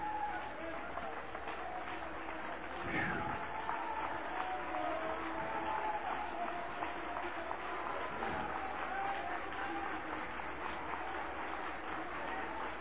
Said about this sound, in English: Applaud him. Applaud him. He's worthy. There isn't anybody that's worthy like Jesus. He's worthy.